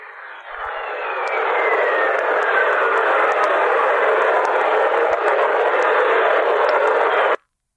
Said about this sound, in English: Would you believe that whistling tone that you hear is actually lightning in Jupiter's atmosphere? Whoa. Cool. Ooh. What the hell? What recorded that? Voyager. Awesome. Oh, Voyager did.